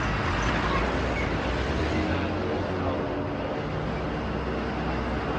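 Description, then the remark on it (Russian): A steady, loud rumble of many heavy trucks hauling grain rolling past, engines and tires blending into a continuous roar of traffic with no pauses. “Сколько машин?”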